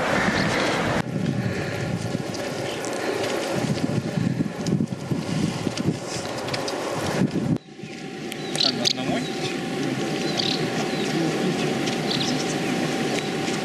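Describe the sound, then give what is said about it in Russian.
The Karakaya waterfall in the Caucasus Mountains, a couple of kilometres from Elbrus, rushes in a steady, dense roar of falling water that fills the whole clip, briefly dipping for a moment partway through before surging back at the same level. “Вот, и вот это Каракайский водопад.”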